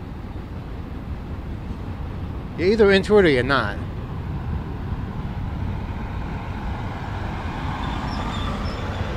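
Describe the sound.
Freight trains rumble past in a steady, continuous low roar that never lets up, with a man speaking briefly early on: a slower train, going about 5 miles an hour, its headlights shining on a long line of empty trash cars, is passed by another train.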